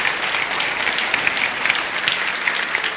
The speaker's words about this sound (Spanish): Y sin decir amén, dale el mejor aplauso al Rey de Reyes y Señor de Señores.